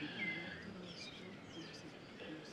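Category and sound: bird, birds singing at dawn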